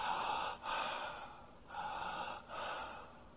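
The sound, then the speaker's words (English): A voice imitates the heavy, rasping, connected breathing of a dying person in the last 24 to 48 hours of life: four long inhale-exhale cycles, each flowing into the next with only brief dips between them, and no talking. “What did they do in the last 24 to 48 hours? They started to breathe like this.”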